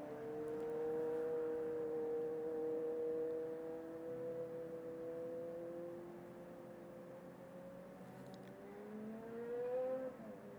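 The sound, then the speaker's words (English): A car drives by with a loud, steady engine drone whose tone slowly sinks, then climbs again near the end as the motor revs. No one speaks. “Just pausing for that car.”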